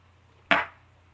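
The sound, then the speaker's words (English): A single sharp clink of shot glasses knocking together in a toast, fairly loud, with a brief fading ring against quiet background hum and no talking. “We're going to do cheers. We're going to do a shot.”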